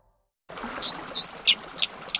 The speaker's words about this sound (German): Die Wasseramsel lebt an klaren, schnell fließenden Bächen und Flüssen und ist der einzige heimische Singvogel, der schwimmen, tauchen und sogar unter Wasser laufen kann, erklärt NABU-Artenschutzfachmann Martin Klatt.